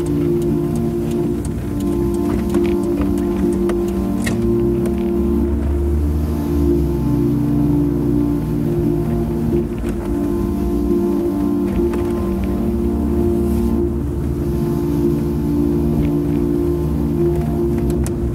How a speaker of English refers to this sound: But we're already driving, already past MBZ on the highway